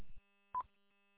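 A single short electronic beep from a timer, mid-pitched and brief, preceded by a soft low thud, with a faint steady hum underneath and no talking.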